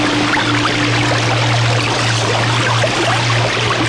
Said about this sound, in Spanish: Era Atoyatl, el río. Pronto su caída la puso en contacto con el agua y... le encantó esta cama de agua fresca.